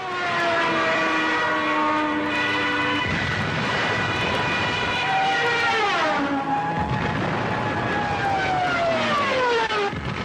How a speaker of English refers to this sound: These are the siren screams of Stukas, dive bombing German airplanes from World War II. In the late 30s, the Nazis attached a pair of sirens onto the wings of these fighter planes. They called them Jericho trumpets.